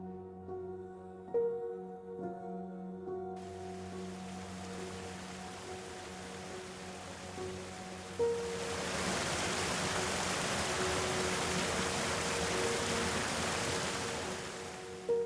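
The gentle waterfall of Twin Falls, two slender parallel strips of water falling softly in a silver mist, makes a steady, soft rush that fades in over a low sustained musical drone, swelling fuller halfway through and continuing evenly to the end.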